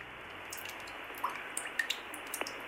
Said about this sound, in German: Wenn man tatsächlich aber im Sommer anruft, dann hört man ihn wirklich schmelzen, dann tröpfelt es in der Leitung und das klingt dann wiederum so.